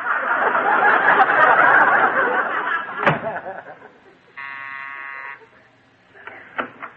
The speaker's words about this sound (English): Go outside, I'll close the door, and ring the bell again. Okay.